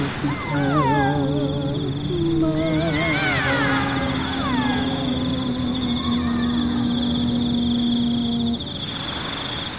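Whale song fills the scene: long, sustained moans overlap with rising, swooping cries and warbling calls, steady and fairly loud for about ten seconds before trailing off.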